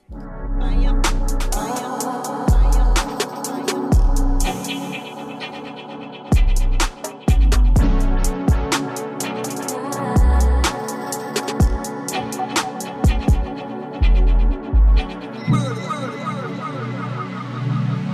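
A dub track plays on its own, driven by deep, heavy bass hits and crisp, echoing percussion strikes in a steady, loping groove, loud throughout.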